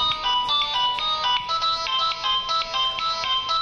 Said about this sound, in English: Is that his ringtone? That is possibly Raul's his ringtone.